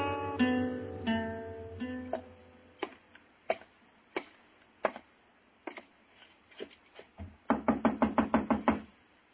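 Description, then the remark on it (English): In the radio drama Gunsmoke, a short musical tone fades, then scattered single knocks sound on a door, ending in a loud, rapid burst of about eight hard raps, with no talking. “Open this door before I kick it open, Reeves.”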